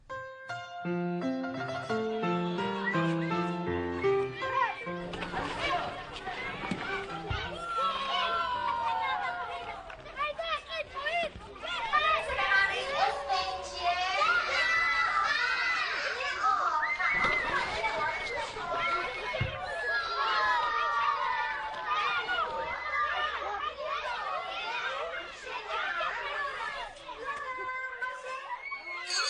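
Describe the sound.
After a brief run of steady tones, a loud, continuous hubbub of schoolchildren's voices fills the scene: overlapping high-pitched chatter, calls and shouts of kids playing at school.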